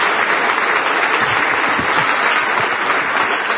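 Steady, dense applause from an audience, many hands clapping together in a continuous wash of sound that stays loud and even throughout.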